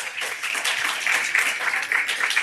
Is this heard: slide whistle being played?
no